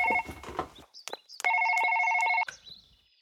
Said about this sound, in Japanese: ああ、電話がうるさくて頭痛が。